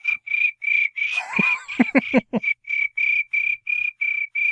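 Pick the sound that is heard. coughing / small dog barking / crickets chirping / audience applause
crickets chirping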